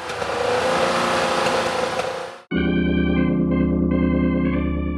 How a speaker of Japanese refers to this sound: なんとかしなけりゃ。僕の車で後ろから押そう。 こんな小さな車で満員のバスは押せないでしょ。 この小さな車プラス神様なら何でもできるさ。